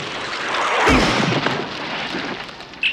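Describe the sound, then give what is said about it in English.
A heavy crashing impact booms out as two bodies, sent hurtling ten stories down by a power punch, smash through the pavement into the subway tunnel below, followed by a dense roar of crumbling debris and rumble that fades slightly. A brief sharp ping near the end; no voices. “Sending them both hurtling 10 stories down to street level, through the pavement, and into the subway tunnel below.”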